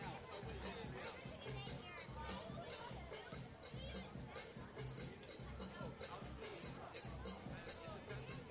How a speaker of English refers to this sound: Tell you what, for a game that had a 3-hour rain delay, we've got a huge crowd on our hands.